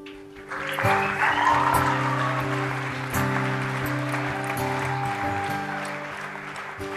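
An audience claps steadily in a dense, continuous wash while sustained keyboard chords ring underneath, shifting every few seconds; no one speaks.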